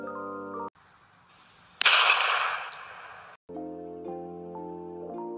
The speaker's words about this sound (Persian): ناگهان صدای شلیک ضعیفی از دور کم کم شنیده شد. آهو از ترس به خودش لرزید. اون شکارچی بود، کسی که برای گرفتن جون حیوانات اومده بود.